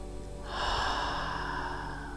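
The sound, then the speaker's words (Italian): A long, deep breath pushed out through the mouth during a deep-breathing exercise, after inhaling through the nose; a steady airy rush starting after a brief pause and lasting about two seconds, fairly soft, with no talking. “Respira dalla bocca.”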